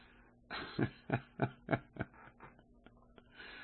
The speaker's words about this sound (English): Oh, man. Hang on one second. All right. I had a Corona cough there.